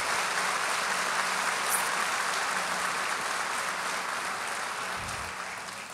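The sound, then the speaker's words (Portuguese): A church audience applauds together during a service, a dense, steady wash of many hands clapping that holds loud and even for several seconds before easing off slightly near the end, with no voices heard. “Aplauda Jesus pela vida deles.”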